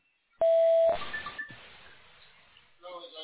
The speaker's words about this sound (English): I'm sorry I missed your call. If you'd like to leave me a message, please wait for the beep.